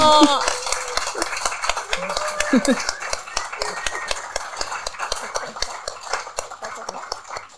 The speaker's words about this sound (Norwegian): Kan jeg også få deg litt applaus?